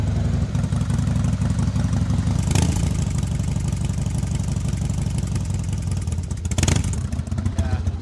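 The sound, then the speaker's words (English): A motorcycle in neutral, with the choke pulled out on a very cold day and the clutch pulled in, catches and settles into a loud, steady idle with a throbbing low rumble, punctuated by two brief sharper bursts. No one speaks. “It's in neutral by the light, but we'll pull the clutch in just in case and we'll give her a fire, see how it goes.”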